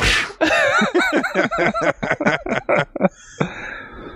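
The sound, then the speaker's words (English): A voice mimics a whip sound for a collar being flipped up, starting with a rapid run of chuckling, voiced bursts and ending in one breathy, swishing whoosh, fairly loud. “It's like, guys, listen to the sound this makes when I flip my collar up.”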